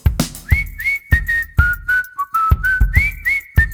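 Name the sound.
human whistling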